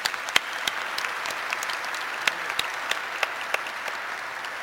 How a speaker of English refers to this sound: I'd like to thank the Employee Assembly for putting on today's Energy Fair. Can we all give them a round of applause?